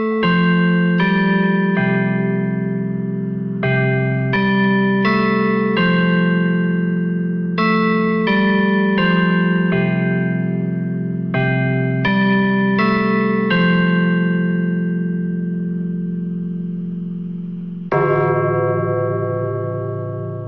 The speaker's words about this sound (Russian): Часы бьют и играют, сказано в ремарке. Ну, например, вот так.